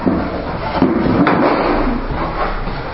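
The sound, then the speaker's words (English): A man shuts a door, with a dull knock partway through amid scraping, rattling handling noise, moderately loud, with no one talking. “Man closing the door.”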